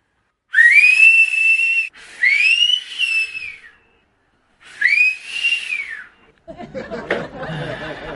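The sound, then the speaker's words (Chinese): A man whistles a catcall three times, each a rising-then-falling wolf whistle, loud, followed by a burst of chuckling and laughter. “想当年，我一个口哨吸引万千少女，偏偏就吸引了你妈。”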